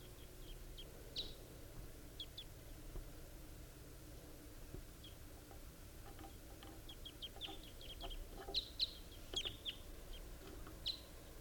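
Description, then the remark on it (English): A pair of wild birds calling in trees: short, sharp, high-pitched chirps come in scattered bursts, growing busier toward the end, over a low steady background hum with no talking. “It sounds just like that same distinctive pair that I heard last night.”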